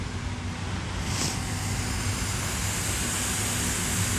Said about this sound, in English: I got a street sweeper truck going to come by here in a second, so I'm going to step off to the side.